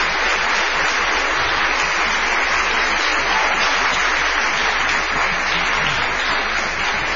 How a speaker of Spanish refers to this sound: Así que hoy hemos invitado a Karina Biorlegui. Vamos a aplaudir a Karina.